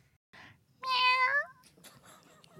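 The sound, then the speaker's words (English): A single loud, drawn-out meow from Captain Benson, a cat with a bad fever, rises and falls in pitch, with quieter rustling and faint sounds before and after it. “His fever's gotten really bad. And he's a cat.”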